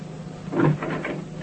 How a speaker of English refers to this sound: Okay, lady. Open the door.